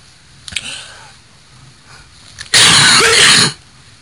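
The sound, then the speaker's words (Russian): A single loud, harsh cough bursts out, lasting about a second, after a faint brief click and quiet background; no one speaks. “Комар кашлянул!”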